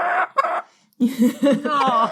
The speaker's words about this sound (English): Oh! Oh, wait a minute, we got a chicken. The chicken has entered the room. We have a chicken.